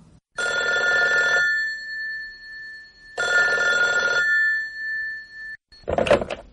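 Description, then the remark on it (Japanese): A telephone rings twice in clear, steady bursts of about a second each with a pause between, followed by a brief rustling clatter at the end; no one speaks. “主任、お電話です。”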